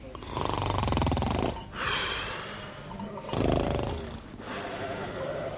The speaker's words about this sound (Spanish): Y cuando vieron cómo roncaba el pastor